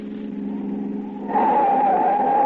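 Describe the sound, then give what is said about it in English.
A car engine hums steadily, then the sound jumps louder into a loud, sustained squeal of tires skidding as the car pulls up and brakes hard to a stop. No voices. “All right, Huey, get out of that car!”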